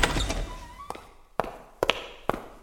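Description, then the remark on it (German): Four hurried footsteps thud on a hard floor in a quick, even rhythm, loud, after a brief fading jumble of sound at the start: a butterfly hunter running excitedly into a throne room. “Wer ist das und warum kommt er so aufgeregt in den Thronsaal gelaufen?”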